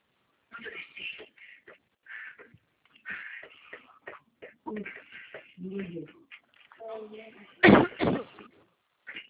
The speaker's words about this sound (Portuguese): Estou com uma tosse